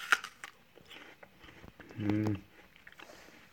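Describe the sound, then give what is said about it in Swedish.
Quiet, crunchy chewing on an apple, a few soft irregular bites and munches, with a short voiced hum in the middle. “Denji tuggade mycket tyst på sitt äpple.”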